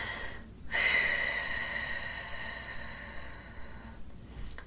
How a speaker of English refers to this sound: 3 rounds of the 4-square breathing method, the box breathing. So we're going to exhale and clear our lungs for 4 counts. This is round one. Here we go.